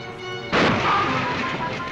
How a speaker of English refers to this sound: Joe takes a bend at speed and a front tire blows.